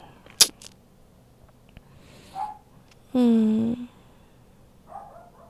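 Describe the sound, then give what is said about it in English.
A dog named Sophie lets out a sustained, slightly wavering whine or yelp lasting under a second, preceded by a sharp click and a brief squeak, with quiet background and no talking. “That's Sophie, she's my scandalous dog.”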